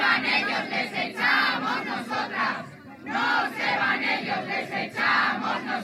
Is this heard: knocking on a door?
no